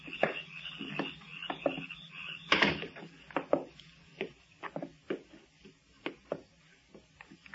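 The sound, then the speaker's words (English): A door at the entrance to a basement, with a stairway leading down, closes with a solid thud, surrounded by a run of irregular wooden knocks and creaks that carry on for several seconds. No voices. “Follow me, but watch your step and close the door behind you.”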